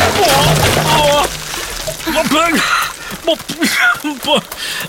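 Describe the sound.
A loud burst of splashing and sloshing water as a person slips on a steep path with loose stones and all their water buckets tip out over them, followed by scattered drips and smaller splashes while a voice speaks over it.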